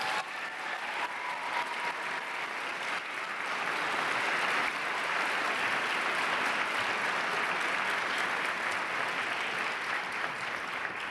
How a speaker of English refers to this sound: And please join me in another round of applause for them.